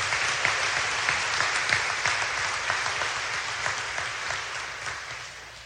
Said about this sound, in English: Let's give Gavin and Joelle one more nice round of applause.